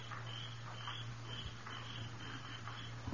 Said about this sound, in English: Of a sudden, all the crickets woke up and began to talk about it.